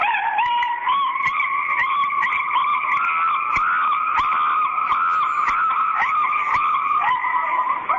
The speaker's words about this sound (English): Well, if you find a cell phone tone of a screaming chimpanzee, mm-hmm. it is the best. Like, here, I'll play mine now, okay?